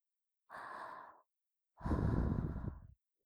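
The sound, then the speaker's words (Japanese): Two soft breaths with no talking: a short airy exhale, a pause, then a longer, fuller breath with a rough, breathy low end, both gentle and intimate, close to the ear. “あ、耳元に吐息が触れてくすぐったいですか？”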